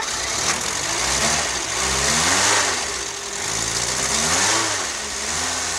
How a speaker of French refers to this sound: Un son qui a marqué ma vie, il y a le son de la 4L, le bruit du moteur de la 4L, moi, qui a marqué ma vie, peut-être qui a influencé, enfin ce projet plutôt a influencé ma vie, parce que ça, c'était ma plus grande aventure.